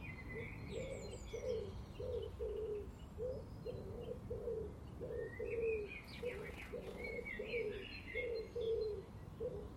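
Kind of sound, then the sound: bird, pigeon cooing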